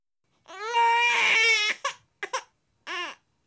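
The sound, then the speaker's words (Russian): A baby wails loudly, one long strained cry followed by a few short, choppy sobs and a final rising whimper, with no one else speaking. “Звуки, которые издает детеныш, ужасны.”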